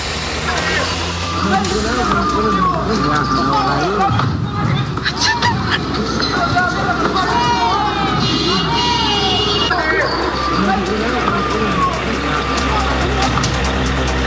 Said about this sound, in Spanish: ambiente de estos encapuchados quienes protagonizaron el ataque a este bus. Escuchemos parte de lo que fue este ambiente protagonizado por parte de estos encapuchados quienes bloquean el tránsito y posteriormente lanzan estos elementos combustibles.